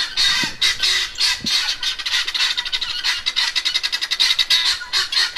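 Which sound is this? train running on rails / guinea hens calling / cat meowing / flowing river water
guinea hens calling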